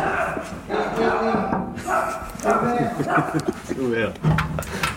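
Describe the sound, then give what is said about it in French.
Dogs bark in short, excited bursts, mixed in with people talking over them in a lively, crowded welcome. “l'accueil. Les chiens.”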